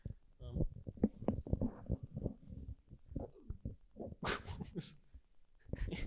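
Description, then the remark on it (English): A long, low, gurgling burp rumbles for a few seconds, followed by a harsh, breathy exhale and some muffled vocal noise. “What was that noise? The burp.”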